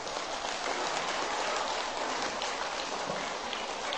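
children applauding

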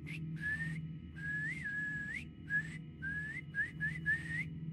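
person whistling

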